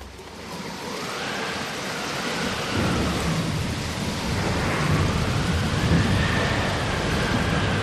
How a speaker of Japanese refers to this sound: あとしばらくというところで再び大風が来て大雨となった。